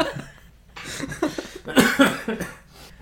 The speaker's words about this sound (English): excuse the cough.